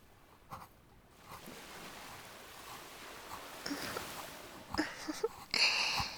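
ocean waves

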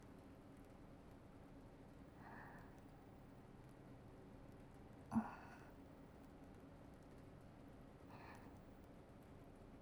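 gentle rain falling

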